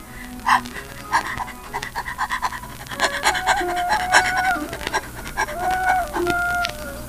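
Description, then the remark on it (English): A person demonstrates fast panting as a breathing exercise for checking the stomach movement: quick, rhythmic huffs of breath that start spaced out and speed into a rapid, steady run. It is fairly loud, with no talking. “Checking the stomach is accomplished by fast panting, like this.”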